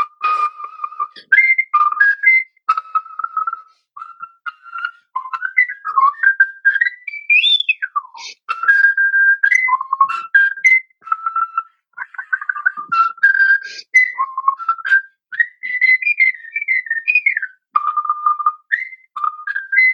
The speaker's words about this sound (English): So now I know everybody probably asked you this, but, and I was debating whether to ask you this, but can I hear you whistle? I would be honored. Okay.